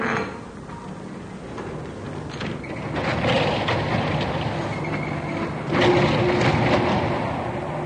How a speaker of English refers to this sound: Listen, I think our friend's come back. Yes, listen. Somebody's trying to open the door.